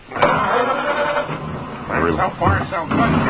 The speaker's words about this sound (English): Let me just start the car here.